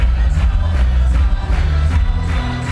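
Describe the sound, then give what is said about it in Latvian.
Social democrat congress delegates in a large hall applaud steadily after Nicolas Schmit is backed almost unanimously. The applause is a dense wash of clapping with a low room rumble underneath, holding at an even level throughout with no voices standing out. “Tam sekoja aplausi un apskāvieni.”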